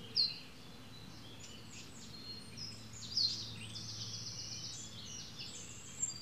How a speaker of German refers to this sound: So klein, der Zaunkönig, der muss natürlich laut scheppern, dass man ihn zumindest ja, klar, hört, oder? Sehen kann man ihn schon. So klein ist.